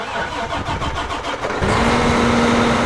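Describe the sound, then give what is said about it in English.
A large diesel tractor engine on a corn and soybean farm in central Illinois cranks with a rapid rhythmic chug for about a second and a half, then catches and settles into a steady, loud idle rumble. The tractor is attached to a planter that seeds 48 rows at a time. “That tractor is attached to a planter that can seed 48 rows at a time.”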